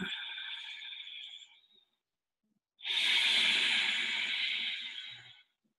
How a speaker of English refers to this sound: for those of you who have done yoga, is what they call resistance breathing or ujjayi breath. So it sounds a little bit like an ocean wave. Now we're going to be doing it in and out of the nose. Okay? So it sounds a little bit like this.